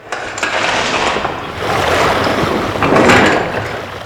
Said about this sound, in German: Luke zischte und senkte sich mit einem mörderisch lauten Geräusch auf Wasserhöhe. Schäumend schoss Wasser ins Innere des großen Schiffes.